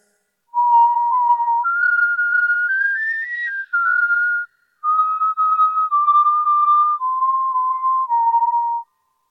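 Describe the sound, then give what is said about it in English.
A clear whistled melody carries a simple tune of sustained notes, rising then gradually falling, with a brief pause midway. It is steady, with no talking. “Can they whistle?”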